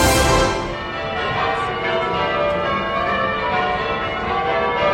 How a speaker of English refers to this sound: And the bells are ringing out over Westminster. A new government, a very old tradition.